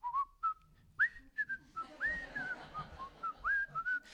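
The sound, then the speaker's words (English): A person in a jail cell whistles a tune, a series of clear pitched notes rising and sliding across a short melody, with a faint low background rumble and no talking. “After about 6 or 7 rounds, the desk officer comes over and he goes, would you stop whistling?”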